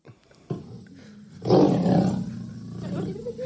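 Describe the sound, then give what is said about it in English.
A lion in a cage at a zoo in Jamaica lets out a deep, rumbling growl that swells into one loud, sustained, powerful roar, then trails off into a lower rumble. “he got his finger bitten off by a lion after taunting him through the cage in the Jamaican zoo”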